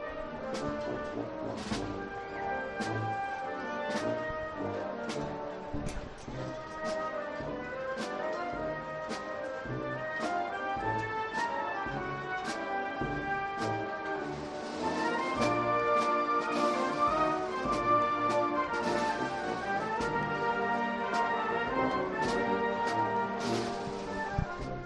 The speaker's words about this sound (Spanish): Esto que suena es la banda de Villalba del Alcor para la Virgen de la Cabeza.